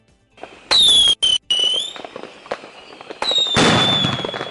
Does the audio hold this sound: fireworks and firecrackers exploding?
yes